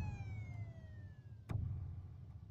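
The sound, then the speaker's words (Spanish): A police siren winds down in a slow falling tone over a low engine rumble as a police patrol car arrives at a house, then a sharp thump cuts in as the vehicle settles. “Segundos después, una patrulla llega a mi casa y toca la puerta.”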